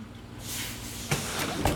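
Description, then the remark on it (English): A bus door at a bus stop slides open with a long pneumatic hiss, followed by a couple of mechanical clunks, all over a steady low engine hum. “The dogs sit up, and the bus door opens.”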